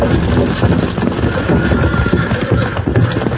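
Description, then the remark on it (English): A wagon pulled by a team of horses crashes through a bridge rail into a river: a loud, steady rushing roar filled with rapid clattering knocks and splintering thuds, with no talking. “Right through the bridge rail and into the river.”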